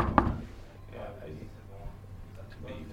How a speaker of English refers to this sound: Marked by a piece of paper with a handwritten number 23 nailed to the door. So we knocked.